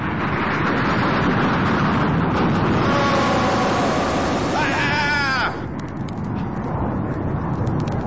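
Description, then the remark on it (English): An approaching water buffalo lets out a few drawn-out, wavering bellows partway through, rising above a steady rushing background of wind or water that continues after the calls stop. “the god of death, Yama, rides on a water buffalo. I guess it certainly is true for this guy. Here he comes.”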